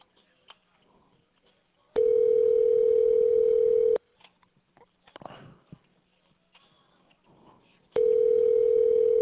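A telephone dial tone sounds while a phone is being dialed, in steady, loud two-second bursts, twice, with a long quiet pause between them filled only by faint rustling and small handling noises. No one speaks.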